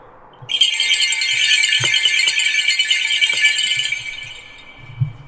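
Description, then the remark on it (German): Sleigh bells on a strap, a bell wreath known for horse-drawn carriages and used in winter as acoustic warning bells, shaken steadily for about three and a half seconds, a dense, bright metallic jingle with no pauses, then fading out with a few soft knocks. “Das ist ein Schönkranz, ist eigentlich bei uns bekannt für die Pferdefahrwerke, Schlittenglocken.”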